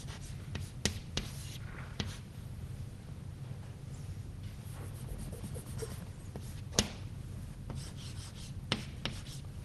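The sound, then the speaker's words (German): Chalk scratching and scraping across a blackboard in steady bursts as equations are written out and derived, punctuated by a few sharp taps as strokes begin, moderately quiet with a low hum and no talking. “ich möchte jetzt mal die verschiedenen Gleichungen, die wir auf den folgenden Folien haben, ein bisschen an der Tafel herleiten, damit wir uns das Diagramm weiter anschauen können, während wir über die Gleichungen nachdenken.”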